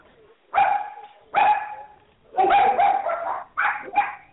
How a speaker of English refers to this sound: There's some of my dogs right here. I raise Australian Shepherds, too, so they're making a racket.